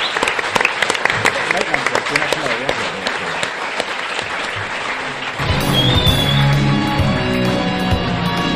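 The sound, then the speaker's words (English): Loud audience applause, a dense crackle of many hands clapping, runs for about five seconds before a louder, sustained sound with steady tones takes over and carries on to the end. “So, big round of applause for all of our people.”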